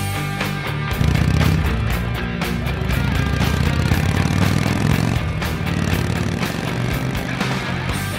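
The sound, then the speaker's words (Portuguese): A motorcycle engine roars steadily at high speed along a highway at night, loud, with a continuous low rumble and no pauses. “Royce seguia de moto pela rodovia durante a madrugada, em alta velocidade”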